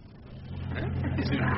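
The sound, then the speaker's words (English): A cross-country bus engine runs with a steady low drone and hum that swells gradually louder across the moment, with a rush of road noise above it and a faint murmur of voices mixed in. “You know, I've never been on one of these cross-country buses before.”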